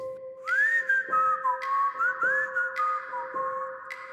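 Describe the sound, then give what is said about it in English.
A person whistles a lilting, old-fashioned melody, the pure tone gliding up and down in steady phrases against a faint constant hum, with no one speaking. “And I'm laying there, I'm looking at the ceiling, and I can hear somebody whistling a song. It was an old-timey whistle”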